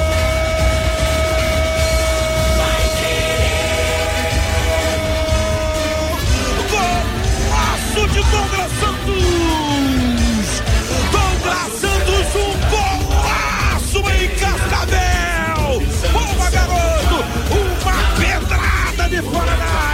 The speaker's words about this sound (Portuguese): Beleza pura, valeu Douglas Santos, a 11 é dele, o grito de gol é da galera albiceleste, Douglas Santos, um golaço em Cascavel!